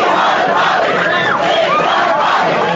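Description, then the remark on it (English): A large crowd chants "We want Bobby" for Bobby Kennedy in unison, many voices blending into a loud, continuous roar with a repeating rhythmic rise and fall throughout. “This is a crowd chanting for Bobby Kennedy.”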